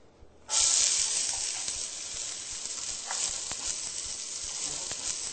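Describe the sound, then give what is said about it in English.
Onions hit a hot pan with a sudden loud burst of crackling sizzle, settling into a steady bright hiss with scattered pops and spits, no one talking. “Next, we're going to add our onions.”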